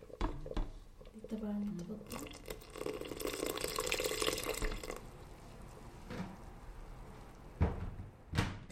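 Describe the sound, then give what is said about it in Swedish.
Water pours steadily for a few seconds, flanked by sharp kitchen clicks and clatter before and after, as a little water is added while cooking, with a yogurt sauce simmering. “Det kommer lite vatten.”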